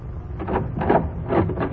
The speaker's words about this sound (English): Go open the door, Doc.